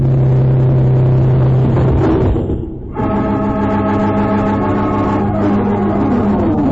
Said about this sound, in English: With a roar, the speedboat crashes into Mark and Cherry, splintering their wooden craft to bits and throwing them stunned into the water.